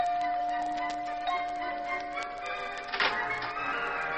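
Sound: doorbell ringing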